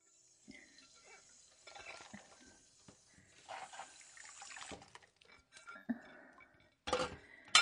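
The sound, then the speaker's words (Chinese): Dishes being scrubbed hard by hand in a sink: water splashes and sloshes in uneven bursts, splashing onto the washer's clothes, while plates and cutlery clink now and then, moderately quiet, with no voices. “哎呀，哎呀，这洗碗的水都溅到衣服上了。可是不用力洗的话，又洗不出来。”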